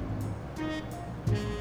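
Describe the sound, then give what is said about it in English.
A big truck drives past, its deep engine drone rumbling steadily with a brief louder swell near the end. “A big truck just went by.”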